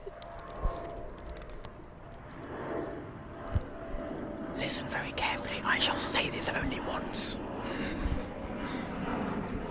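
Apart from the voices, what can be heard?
aeroplane flying overhead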